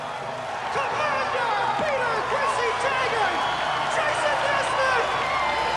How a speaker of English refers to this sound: He gazes out at the cheering crowd and smiles.